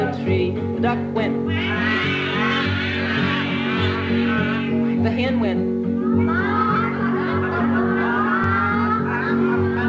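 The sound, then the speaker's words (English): A voice imitates a cat's meowing in two drawn-out, wavering passages over a steady, humming musical backing that continues throughout at a moderate level. “The cat went.”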